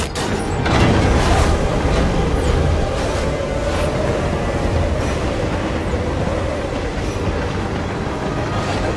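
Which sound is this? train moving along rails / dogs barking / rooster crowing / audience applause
train moving along rails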